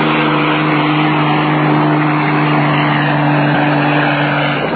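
A loud, steady helicopter engine drone with a constant low hum and a rushing whine, running evenly without pause, as the helicopter flies to Mount Vista. No voices are heard.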